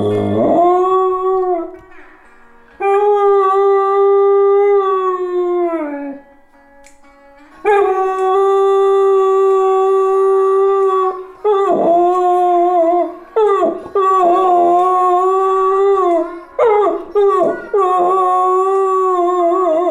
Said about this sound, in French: C'est plus chant d'oiseau, c'est chant de chien.